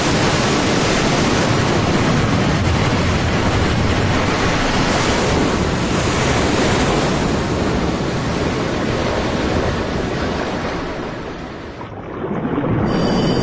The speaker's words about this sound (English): This is the reef crust, and it's the point where the waves generated by the open ocean impact the hard surface of the coral reef. It's an unstoppable force hitting an immovable object. I'm keenly aware that these are very small waves.